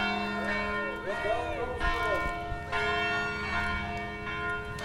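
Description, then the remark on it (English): Church bells toll for Sacco and Vanzetti in a steady, overlapping peal, each strike blooming into a long, shimmering hum that never fully fades before the next one sounds. “So this is why the bells are tolling for Sacco and Vanzetti now.”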